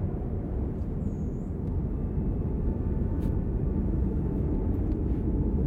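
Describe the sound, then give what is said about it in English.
A steady, deep roar of wind picking up as a storm builds, its low, broad whoosh growing slightly stronger toward the end, with no voices present. “Wind's picking up a bit, though.”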